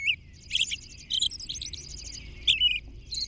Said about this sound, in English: Then, as evening comes on, the same robin interweaves these phrases with exquisite whisper-like notes from its personal treasury of 75 to 100 different whispered notes. The potential song variety is amazing. The musical results, enchanting.